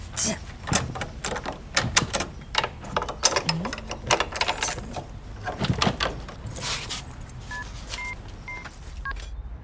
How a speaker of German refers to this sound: Am Nachmittag stehen Kim, Leo und Yasina endlich vor der neuen Wohnung. Kim grinst und klimpert stolz mit dem Hausschlüssel, den sie von Frau Hansen bekommen hat.